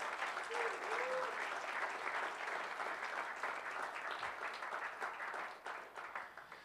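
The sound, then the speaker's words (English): A crowd applauds steadily, a dense wash of many hands clapping that holds at a strong level for several seconds before gradually thinning toward the end. “You got to give them another round of applause today.”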